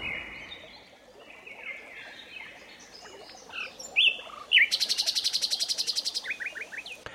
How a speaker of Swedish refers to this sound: Kan inspelat fågelkvitter dölja buller från brummande bussar? Ja, det testar man snart på ett torg i Malmö.